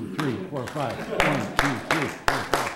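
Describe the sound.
An ASU audience claps in sharp, loud unison bursts of roughly five beats, spaced unevenly, while a voice counts 1, 2, 3, 4, 5 aloud over the clapping.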